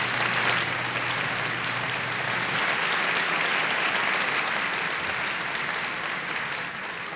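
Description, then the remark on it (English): Sustained applause from a large audience at a film award ceremony, a dense, steady wash of clapping that holds at an even, fairly loud level for several seconds before easing slightly at the end. “I'm sorry I was taken away with the applause.”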